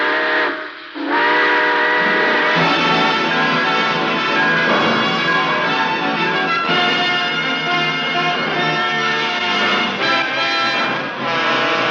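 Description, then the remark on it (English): A steam train whistle blows a loud, sustained multi-tone chord as the train departs, breaking off briefly near the start before sounding again and holding steady for several seconds, with a faint hiss beneath and no talking; a sound effect in The Railroad Hour radio program. “All aboard! Well, dear friends, it looks as though we're ready to pull out.”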